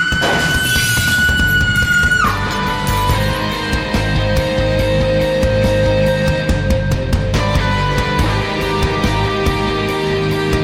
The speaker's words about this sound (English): Just then, the power went off. And I heard glass breaking.